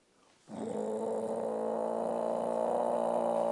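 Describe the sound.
A dog, Thina, growls in a low, continuous rumble with her legs braced and the hair up on the back of her neck; it starts abruptly after a brief silence and holds steady and fairly loud for about three seconds, with no talking.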